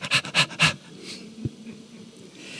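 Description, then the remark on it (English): A person imitates a dog panting with three quick, breathy huffs in a steady rhythm, fairly loud, followed by quiet with a faint soft knock. “It's panting.”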